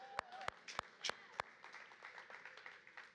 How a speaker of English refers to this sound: I'll clap with you.